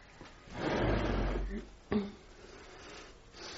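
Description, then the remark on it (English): A wooden chair scrapes across the floor in a rough drag lasting about a second, followed by a short knock as it settles, fairly quiet; Jane Eyre drawing her chair nearer to Mr. Rochester in a radio drama of Jane Eyre. “Draw the chair nearer, Miss Eyre.”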